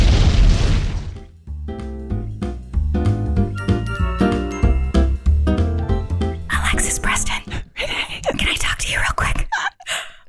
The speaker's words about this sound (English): Chris, do another explosion right here.